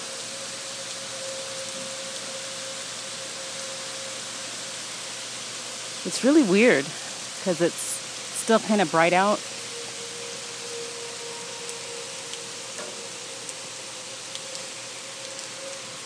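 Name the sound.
steady rain falling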